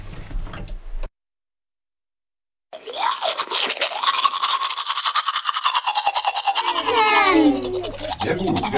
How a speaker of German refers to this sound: Sehr gut. Zähneputzen natürlich. Was muss man machen nach dem Essen, wenn man Chips gegessen hat oder einen Apfel? Man muss die Zähne putzen.